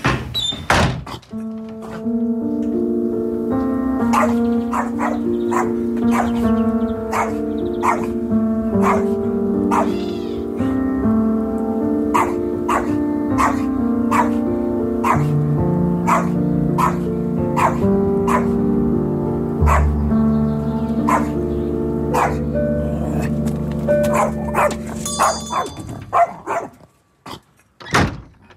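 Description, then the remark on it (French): A small dog yaps over and over in a steady rhythm, roughly one sharp bark per second, loud, with a sustained tonal drone underneath and no talking. “Heureusement que j'ai mon petit chien.”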